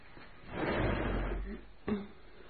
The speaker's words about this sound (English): One evening after dinner, Mr. Rochester summons me to his presence. Draw the chair nearer, Miss Eyre.